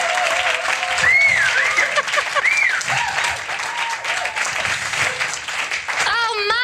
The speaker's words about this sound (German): Du bist in deinem Element und alle genießen das und dann wird es ein grandioses Finale geben. Und dann gibt es wieder diesen Popstar-Applaus.